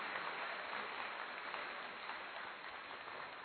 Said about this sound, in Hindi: कोटि कोटि है कंठ कहते जन्मदिन की कोटि बधाई जी, दसों दिशाएं मिलकर गाएं हैप्पी हैप्पी बर्थडे भाई जी। जोरदार ताली।